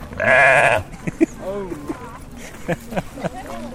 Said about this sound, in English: No, if only that goat would say something else.